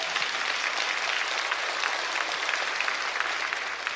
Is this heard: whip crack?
no